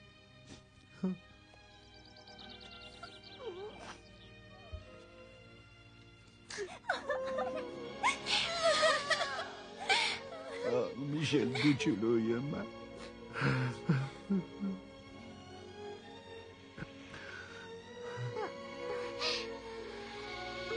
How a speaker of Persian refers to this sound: چی گریه میکنی؟